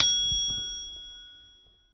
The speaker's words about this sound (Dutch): Sla nu het boek open. Hoor je een bel? Sla dan de bladzijde om.